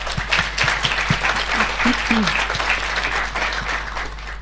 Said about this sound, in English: If we could give the speakers a round of applause, please.